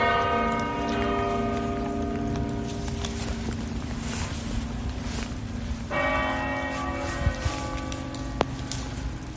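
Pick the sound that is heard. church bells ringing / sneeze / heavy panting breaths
church bells ringing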